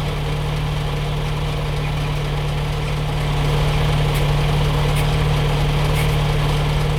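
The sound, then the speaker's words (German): A truck idles at a traffic light right beside the speaker with a steady, deep low rumble and constant vibration, holding an even drone throughout with only slight shifts in intensity. “So, das letzte Geräusch ist ein LKW, der neben mir an der Ampel steht.”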